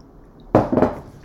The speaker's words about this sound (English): Another sip of water here.